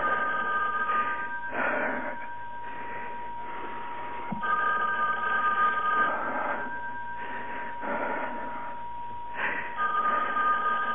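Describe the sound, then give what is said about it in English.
A telephone rings over and over in a steady electronic pattern, its tone slightly thin and muffled, with no one speaking and nothing else interrupting it. “Please answer the phone”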